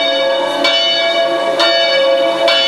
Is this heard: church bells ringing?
yes